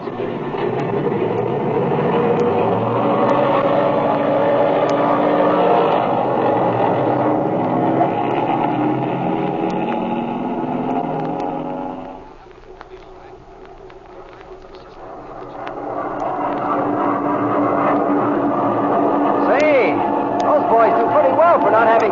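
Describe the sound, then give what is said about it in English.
A warmed-up propeller airplane engine roars loudly and steadily for takeoff, drops back briefly to a lower idle about halfway through, then revs up again to full power. “The engine's been warmed up already. All right, kid, turn it loose.”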